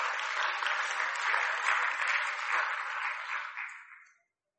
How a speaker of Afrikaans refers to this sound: baie dankie, kom ons geef hulle lekker hande klap.